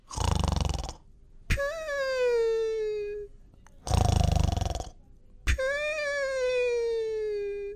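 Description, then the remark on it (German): Two exaggerated, cartoonish snores from a voice imitating a dinosaur that has fallen asleep: each a loud, rasping inhale followed by a long, whistling exhale that slides downward in pitch, with no talking. “der doch tatsächlich eingeschlafen ist und sogar ein bisschen schnarcht.”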